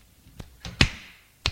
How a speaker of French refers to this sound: Il la gifle.